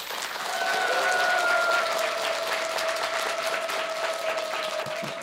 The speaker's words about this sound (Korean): 여러분 큰 박수로 맞이해 주십시오.